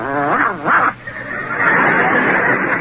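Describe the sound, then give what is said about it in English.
A man imitates a dog with two quick, loud barks in succession, followed by a stretch of steady rushing noise. “I'm as trustworthy and loyal as an old dog.”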